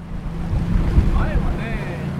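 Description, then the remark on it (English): A fishing boat's engine drones steadily as it sets off over emerald green water, with water sloshing and wind buffeting the microphone, while faint voices and a few bird-like chirps rise briefly above the rumble. “let me hop on one of their boats. And off we go.”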